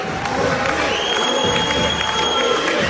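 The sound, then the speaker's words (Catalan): A large crowd chants "Uri", the name of goalkeeper Uri Codony, in unison during a penalty shootout against Braga, a loud, sustained roar of voices filling an indoor arena with rhythmic shouts repeating throughout. “Crits d'Uri, Uri.”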